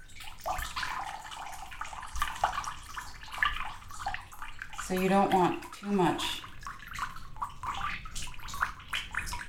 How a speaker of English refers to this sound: and then you kind of have to shake it very quickly in both directions to kind of disperse the fiber evenly, and then you just let the water drain out. It's the best sound.